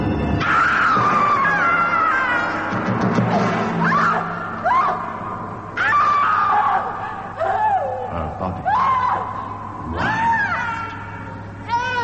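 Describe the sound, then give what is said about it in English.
A woman screams in anguish, long wavering cries rising and breaking repeatedly over about twelve seconds, loud, with a dense, chaotic backdrop of noise beneath. “Her last scream of torment would haunt him all the days of his life.”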